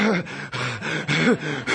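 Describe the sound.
A voice imitates the heavy, rhythmic breathing people did before prophesying: about four forceful, rasping breaths in quick succession, loud, with a slight vocal tone mixed into the huffs.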